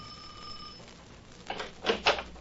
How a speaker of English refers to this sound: You got to talk to somebody. You got to find out. You ring Mrs. Borges' bell.